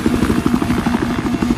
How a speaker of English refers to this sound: I was like, I'm in the helicopter.